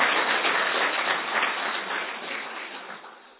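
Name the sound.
audience clapping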